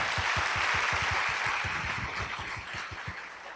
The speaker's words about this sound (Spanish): Wow, son más del 90. Regálense un aplauso que yo los ayudo.